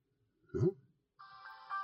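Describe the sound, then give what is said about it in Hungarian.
A dull thump as a car dashcam is plugged in, then its power-on sound: a steady, bright electronic tone that holds for almost a second and swells slightly near the end. No one speaks. “Csak előtte bedugom a menetrögzítő kamerát, aminek majd a hangjából remélem észre fogjuk venni, hogy talán már veszi is majd azt, amit itt megpróbálunk beszélni.”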